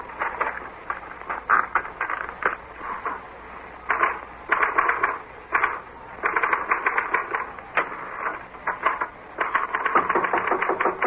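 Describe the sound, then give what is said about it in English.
Rapid mechanical typewriter keystrokes clatter in uneven bursts, fairly loud, with brief pauses between runs of keys and no voices, as a note is copied onto the typewriter. “This is a note I want you to copy onto your typewriter.”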